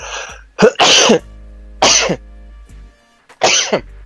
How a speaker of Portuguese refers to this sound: Passar um segundo aqui que eu vou espirrar.